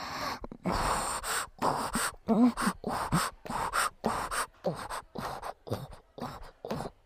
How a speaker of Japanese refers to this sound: こうやってくっそ下品な吐息だけの喘ぎ声吹きかけられるのがチンポに来るんだよね。